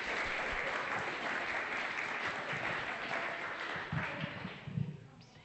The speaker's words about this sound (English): Well done. Give them all a clap. Excellent. Well done.